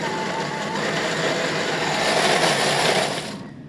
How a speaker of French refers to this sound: On vient les rajouter donc dans notre mixeur et on va les mixer à chaud.